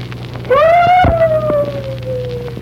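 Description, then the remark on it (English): A voice imitates a dog with one long, drawn-out howling cry that rises, then slowly falls and trails off. It is fairly loud, with no talking. “And he heard nothing but dogs. What did the dog say?”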